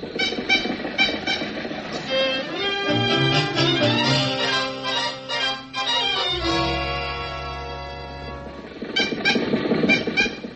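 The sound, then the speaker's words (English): An old car engine struggles to start: rhythmic sputtering chugs open and close the sound, with loud wheezing, groaning tonal whines that shift in pitch in between. No one speaks. “Why do they always gather when we try to start the car?”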